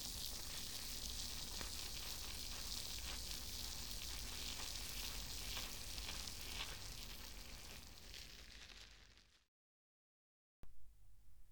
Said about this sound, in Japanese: 耳元で炭酸の泡が弾けてるの、わかりますか？この音を聞いてるだけで気分がすっきりしてきません？炭酸たっぷりの泡を作っている音も楽しんでくださいね。